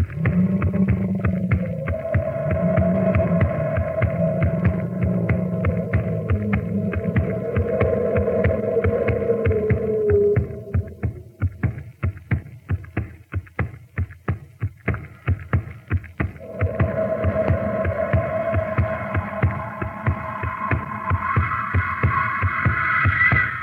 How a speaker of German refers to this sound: Mutti, dieses Knurren ist wirklich furchtbar unheimlich.